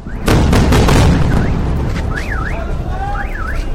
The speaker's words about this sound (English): The sound of calm waves crashing against the shore were replaced by bombs exploding overhead in Rafah.